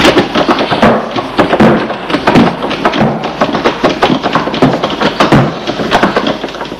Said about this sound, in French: Arrivé devant la porte d'entrée, ils voient qu'elle est fermée à clé. Ils essayent de l'ouvrir.